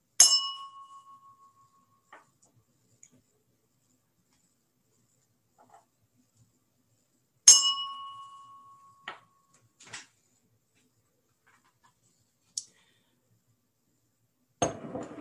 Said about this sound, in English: Next, we'll have a moment of silent meditation, beginning and ending with a chime.